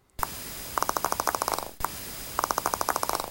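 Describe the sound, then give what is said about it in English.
A dolphin's sharp pop followed by a quickening train of clicks, like a bouncing ping-pong ball, heard twice in a row over a steady hiss of background noise. “It sounds like a pop, followed by what can only be described as a bouncing ping-pong ball, and it's often heard during aggressive chase encounters.”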